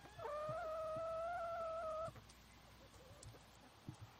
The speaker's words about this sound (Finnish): Me osataan kohdata aika hyvin koiria, kissoja, mutta aika kaukainen ajatus on jo monelle se, että mitä se kanan elämä on. Onko kana muutakin kuin se, että se munii. Me arvostetaan myös sitä niin kuin kanan elämää.